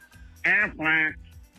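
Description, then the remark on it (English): A radio listener imitates a duck as an entry for Farm Animal Awareness Week, with two loud, nasal quacks in quick succession and quiet background hum before and after. “And this is a duck.”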